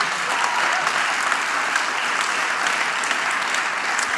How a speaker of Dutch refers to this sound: Nou, het mooie is, ja, Jan, geef Jan een applaus.